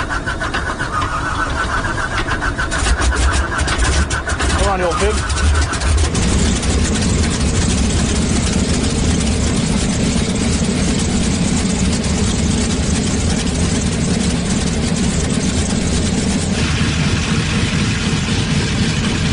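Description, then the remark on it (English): The engine of a 215 airplane cranks and sputters for a few seconds as a mechanic starts it for a test run, then catches and settles into a loud, steady idling drone. A man briefly speaks near the start. “Start the engine.”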